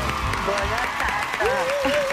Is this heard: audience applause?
yes